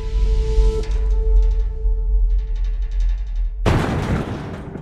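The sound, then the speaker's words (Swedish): A low droning hum with faint tonal shimmer builds tension, then a sudden loud blast, police blowing open an apartment door in a multi-family house in a small village in western Germany, bursts in near the end and trails off into a rumbling, noisy wash. No voices. “Samma morgon som polisen griper adelsmannen prins Heinrich den 13 Royce så ljuder en explosion genom en liten by i västra Tyskland. Polisen har sprängt dörren till en lägenhet i ett flerfamiljshus.”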